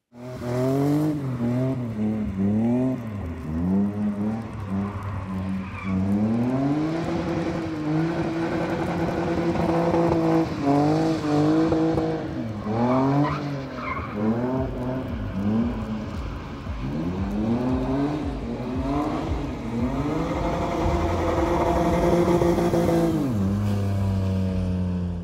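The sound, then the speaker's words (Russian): Race cars drift on a wet concrete autodrome track that is constantly watered with a hose, their engines revving loudly in repeated rising and falling sweeps, with a hiss of tires sliding underneath. No one speaks. “Прежде дрифтовали самые жареные, теперь добавились скользкие.”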